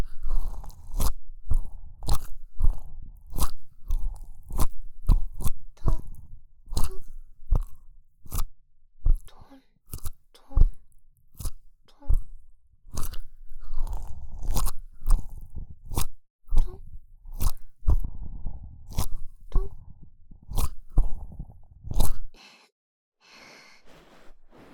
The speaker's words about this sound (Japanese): 耳が暖かいうちにトントンと叩いて刺激します。トントントン。